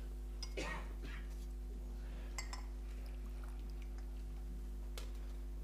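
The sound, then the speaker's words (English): A cup clinks softly a few times, spaced apart, with faint slurping and liquid sounds of someone sipping over a low steady hum. “take a sip of this first.”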